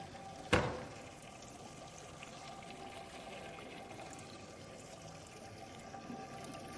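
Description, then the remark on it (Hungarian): Water pours and splashes steadily over the metal surface of a barrel to cool it, a continuous rushing wash lasting several seconds, with one sharp knock near the start and no voices. “Az az igazság, hogy az udvaron ezt egy kicsit bővebb vízzel sokkal gyorsabban el lehet végezni, meg esetleg egy nagyobb hordóval.”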